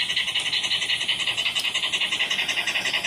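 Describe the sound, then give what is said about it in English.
A dog pants with a fast, steady rasping sound, a hissy scratching rhythm of about seven pulses a second, continuous and even for the whole stretch, with no voices. “Yeah, well, it was actually a dog.”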